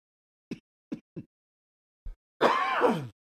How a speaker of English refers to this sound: I apologize. You still have a cough? This ridiculous cough.